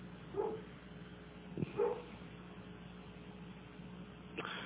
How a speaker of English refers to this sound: Anyway, if they ring, well, I don't have a doorbell. I guess the dog is the doorbell.